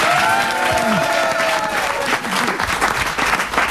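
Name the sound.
applause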